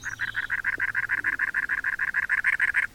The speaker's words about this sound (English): Our singer is the size of a red-winged blackbird, but it's a wren, a very large one, called the cactus wren.